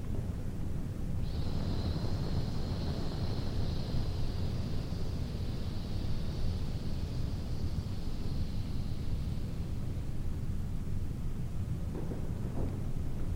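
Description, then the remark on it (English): A long, steady hissing exhale through the teeth, made as part of a guided body exercise, lasts about eight seconds, soft and even, over a constant low rumbling background noise. “And you're going to hiss and watch the umbrella close around the central axis inside the shoulder girdle.”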